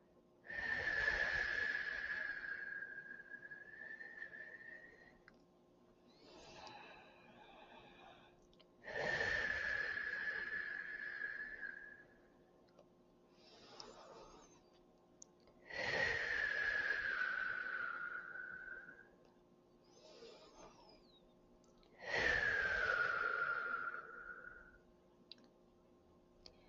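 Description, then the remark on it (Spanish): Slow, deep breathing during a breathing exercise: four long, forceful exhales with a faint whistling edge, each followed by a shorter, quieter inhale, repeating in an unhurried rhythm with no talking. “Exhala. Inhala. Y trata de extender lo más que puedas a la exhalación.”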